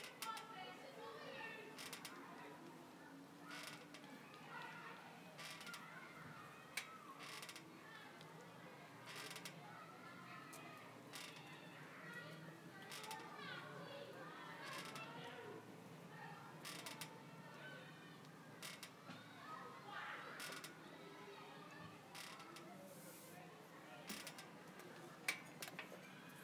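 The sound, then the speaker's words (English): A clock mechanism ticks steadily, sharp clicks repeating at a regular pace over a low, muffled background rumble and faint rustling. “The clock.”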